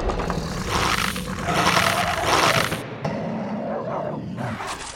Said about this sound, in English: Dogs! There's a dog outside my door. I thought we were underground, but who knows anymore because there's a fucking dog outside my door. Hear that?